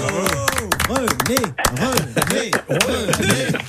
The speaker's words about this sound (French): Regardez tous les auditeurs de France Bleu qui vous applaudissent.